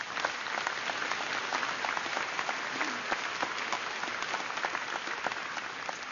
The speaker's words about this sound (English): They've sacrificed so much in order to give you this opportunity, and they are so proud of you. Just 2 years ago, I sat in their chairs when my daughter graduated from law school, so please, one more round of applause for the family and friends.